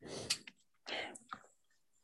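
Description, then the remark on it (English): A handful of soft, sharp key clicks land at irregular intervals on a computer keyboard as keys including Delete are pressed, quiet, with a couple of breathy exhale-like hisses between them and no talking. “What do I press again to get the virus on this one? Delete.”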